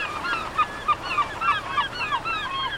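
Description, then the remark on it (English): Gulls call repeatedly in a busy overlapping chorus at Freedom Park by the Niagara River, sharp nasal cries rising and falling over a steady outdoor hum, moderately loud, with no voices. “Gulls take refuge at the park year-round.”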